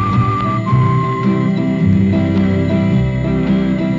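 A 1961 folk song recording plays on Radio Atlanta, a high, clear whistled melody line floating over warm, full acoustic accompaniment, with no voices singing in this stretch.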